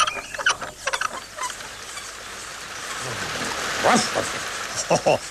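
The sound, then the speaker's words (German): A short burst of water from a pump pours down onto Moppy's head in a steady, hissing splash lasting a few seconds, preceded by quick clicking noises, with brief vocal sounds near the end. “Es gibt ja auch nur einen klitzekleinen Platzregen auf Moppys Kopf.”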